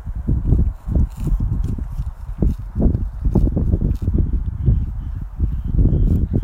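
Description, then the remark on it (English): A horse in his field shifts about and chomps on grass, giving a steady run of irregular low thuds and crunchy, rustling bites with no voices, fairly loud throughout. “Anyway, I think I'm going to leave this horse now to get on with chomping on the grass, as he seems to be doing quite happily now”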